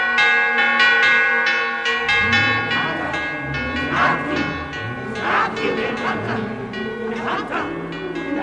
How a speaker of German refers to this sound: Die Glocke dröhnt im Güllen, die Glocke des Verrats!